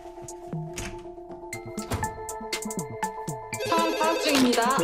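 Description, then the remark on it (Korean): Several telephones ring at once, their electronic ringtones overlapping in a busy, repeating jumble that grows louder and denser toward the end. “아무도 전화 받지 말아요.”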